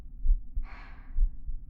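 A slow, muffled heartbeat thumps low, with paired beats repeating about once a second, while a brief soft breathy whoosh rises in the middle.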